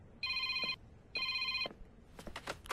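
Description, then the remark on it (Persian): A telephone rings twice in steady electronic bursts, each about half a second long with a short gap between, followed by a few faint clattering sounds. “الو گوشی رو بده به جاشو.”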